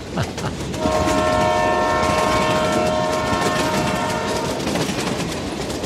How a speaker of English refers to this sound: This is about train whistles. I've been going up since the early 70s, and that train, I think it was Burlington Northern at that time. The whistles always sounded the same